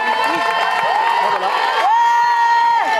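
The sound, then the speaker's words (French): A crowd of Raid Amazones participants, lined up in a column to welcome the last arriving teams, cheers loudly and steadily for three seconds, high voices whooping and shouting with rising calls, with scattered clapping mixed into the din. “Toutes les Amazones en colonne et qui accueillent les dernières.”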